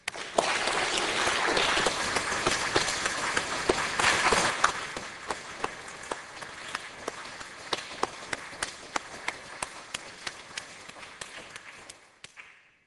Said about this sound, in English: And I hope you all enjoy the conference, and join me in a round of applause for Abner for such great contributions to our subject.